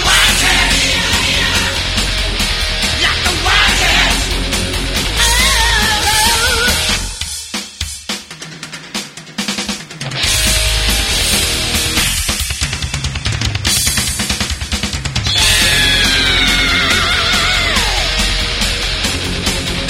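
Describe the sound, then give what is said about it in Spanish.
Loud, dense rock song with distorted guitars and pounding drums. The band thins out briefly midway, then returns at full force, with a bright guitar solo line winding over it near the end. “Un tema directo y adictivo, como estáis escuchando, y con muy buenos solos.”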